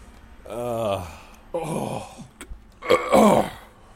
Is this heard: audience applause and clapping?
no